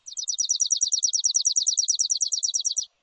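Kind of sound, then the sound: bird, chipping sparrow song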